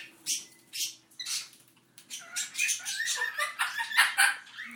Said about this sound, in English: Dixie and Storm chatting, and at least one budgie chattering away. All the budgies are okay.